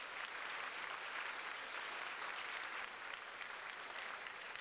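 An audience claps in a dense, steady wash of applause that holds evenly for several seconds, sounding somewhat muffled and fairly soft, with no voices over it.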